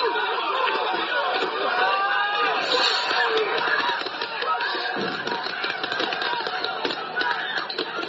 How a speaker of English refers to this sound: You can hear law enforcement firing pepper spray as crowds taunted officers.